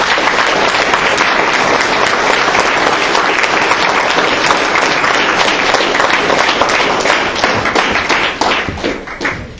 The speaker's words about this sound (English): Members in the audience, these are the men and women that have direct contact with our children that also have served our country. So let's please give them a round of applause.